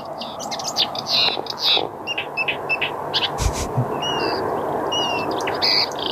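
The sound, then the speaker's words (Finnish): A marsh warbler sings a rapid, varied stream of bright chirps, whistles and trills, its phrases switching style as it imitates other birds' calls, including a barn swallow, over a steady outdoor hiss. “Esimerkki laista, joka matkii tosi paljon, nyt sieltä tulee harppääskyä.”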